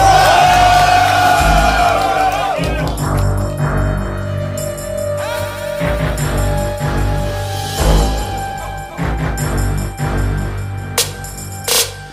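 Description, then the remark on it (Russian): A crowd at a Versus Battle rap battle cheers loudly after the first round, whooping and yelling in a sustained roar that lasts about twelve seconds. A heavy low rumble runs underneath, with occasional sharper shouts rising above it. “Это было хорошо, первый раунд, …, дайте шуму!”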